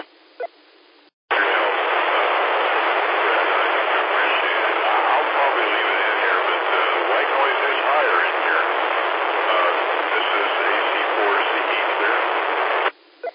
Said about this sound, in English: About 10% white noise. So you're making it, and I can tell it's you, but a good bit of just white noise.